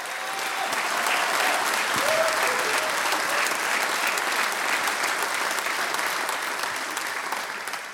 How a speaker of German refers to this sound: Jetzt Oskar Lenz, einen Applaus.